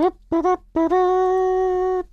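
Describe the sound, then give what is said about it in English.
A person hums a TV theme tune: two quick notes followed by one long, steady held note, with no talking. “Is that the Curb Your Enthusiasm theme tune I'm humming for some reason?”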